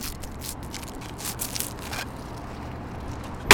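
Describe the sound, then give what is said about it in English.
Soft crinkling and rustling of a plastic wrapper comes off a straw, then after a quiet pause a pointy plastic straw punches through the cellophane seal of a tall cup of bubble tea with little tapioca bubbles in it, with one sharp, crisp pop. “That's the sound of a straw, a pointy plastic straw, piercing the seal on a tall cup of bubble tea.”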